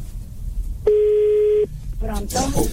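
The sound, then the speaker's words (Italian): A single steady electronic keypad tone as a phone number is dialed sounds loudly for under a second, with faint background voices before it and more talking right after. “Sì, se no chiamo sul telefonino.”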